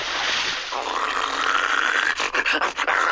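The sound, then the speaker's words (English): A dog that has just got out of the water makes loud, rough, breathy growling and panting noises, continuous for a few seconds with choppy bursts near the end. “You don't mean the dog got out of the water?”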